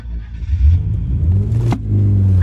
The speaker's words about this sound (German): So schnell er kann, legt er den Gang ein und rast die Straße entlang, weg von den Unbekannten.